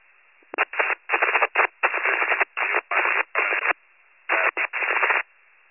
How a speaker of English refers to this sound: Still not making it. Still static, nothing's coming through.